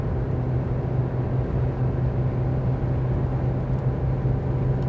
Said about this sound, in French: Vous devez bien entendre mon moteur là. Ouais, je l'ai tassé un peu à 140 là pour doubler un camion.